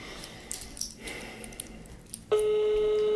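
telephone call ringing tone

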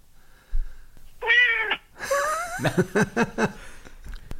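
domestic cat meowing

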